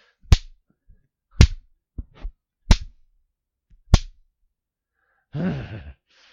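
A hand smacks skin during sex, four sharp, crisp slaps about a second apart with a couple of softer hits between, followed by a short voiced cry.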